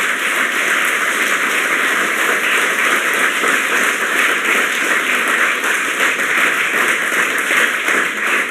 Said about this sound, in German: Davon haben 103 Leute auch tatsächlich Schichten übernommen. Und unser Top-Troll hat insgesamt 26 Stunden an Schichten belegt. Ich finde, das ist überhaupt mal alles einen großen Applaus wert.